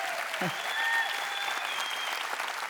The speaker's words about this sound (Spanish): Le podemos dar un saludo, aplauso a Cindy. Está viéndonos del hospital.